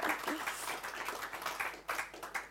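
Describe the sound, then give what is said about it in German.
Sustained applause from a crowd at a Heart to Heart evening event, a dense crackle of many hands clapping at once, fairly steady with small swells, and no voices standing out. “Und ich hatte wirklich so, ja, Applaus.”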